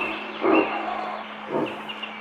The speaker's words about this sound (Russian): Вдалеке рявкнул кабан.